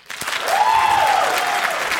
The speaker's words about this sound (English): Let's hear the applause.